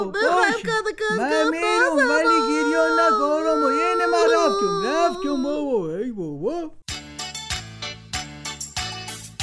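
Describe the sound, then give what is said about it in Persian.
A loud voice of a talking cooking pot character whimpers and sobs in a wavering, quivering cry for several seconds, then cuts off abruptly as rhythmic music begins. “گریه نکن دیگ، من خوب گفتم.”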